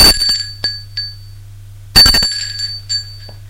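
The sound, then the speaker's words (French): A doorbell at the door of a manor rings twice, about two seconds apart, each ring a bright, rattling metallic burst that quickly fades, with a steady low hum underneath and no voices. “Sonne à la porte.”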